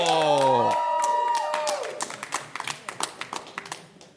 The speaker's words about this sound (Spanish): Fuerte aplauso.